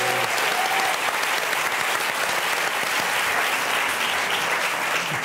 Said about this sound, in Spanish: Un aplauso para los cuatro.